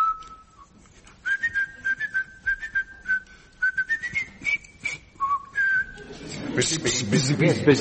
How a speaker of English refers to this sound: Can you whistle the song of the apiarist?